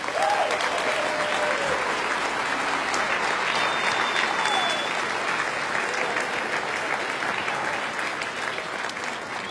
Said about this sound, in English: Your applause means everything. Thank you.